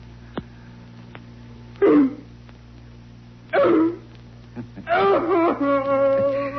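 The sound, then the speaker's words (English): A person imitates a dog's bark: two strained, isolated barks, then a longer, louder run of barking that trails into a whining, howl-like wail, fairly loud against a low background hum. “Louder, puppy dog.”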